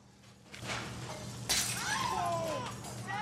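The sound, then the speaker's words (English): A plate smashes on a hard floor in one sudden, loud crash, followed by the bright ringing and skittering of shards settling, over a low steady background hum. “The chef arrives to find a plate smashed on the floor and a young black woman tidying up the mess.”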